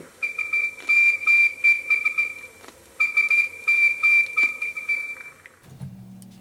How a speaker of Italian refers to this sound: Bene, questi SOS insistiti, suonati al flauto dolce all'epoca, a segnalare proprio l'urgenza di un intervento da parte delle autorità per insomma, salvaguardare non solo i terremotati, ma tutta una zona che era lasciata all'abbandono,